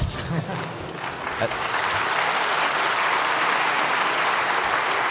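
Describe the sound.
An audience at a Chaos Computer Club event claps steadily for the volunteers of Chaos macht Schule, a dense wash of applause that holds at a loud, even level for several seconds, with a voice briefly audible at the start.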